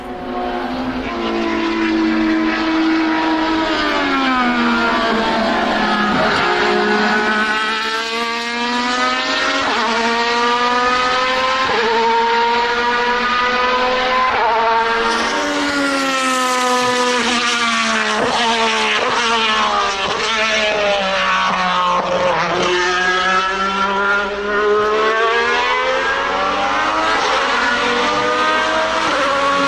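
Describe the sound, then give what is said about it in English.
A loud Alfa Romeo 155 DTM race car from the early to mid 1990s, four-wheel drive with a 2.5-litre V6, screams continuously, its engine pitch climbing and dropping through gear changes as it revs hard, sustained for the full stretch, with no voices. “No, so that's an Alpha 155 DTM car from early 90s, early to mid 90s.”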